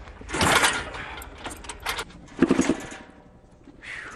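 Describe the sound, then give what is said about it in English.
A high-compression motorcycle, raised up, is kick-started with full rolls on the kickstarter: a series of clanking, ratcheting mechanical strokes as the engine turns over in bursts without catching. “so we cut the bike off and raised it up so we could get a full roll on the Kickstarter, and that seems to do it with this high compression engine.”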